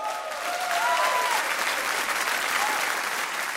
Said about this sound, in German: Applaus von allen für die Message gegen Hass.